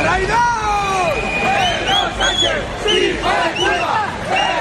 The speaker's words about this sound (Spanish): Terminó el desfile militar del 12 de octubre en Madrid, de nuevo con gritos y con insultos contra el presidente del gobierno, Pedro Sánchez.